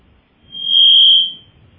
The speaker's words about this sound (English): Now, would you like me to announce callers with that beep?